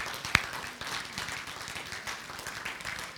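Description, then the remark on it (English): A church audience gives a clap offering at a morning service after a prayer, a steady wash of many hands clapping, with one sharp clap standing out near the start, the clapping sustained throughout. “Can we just give a clap offering this morning?”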